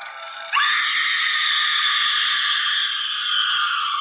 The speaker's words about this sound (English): A paranormal event, untold, the ominous shriek of a woman.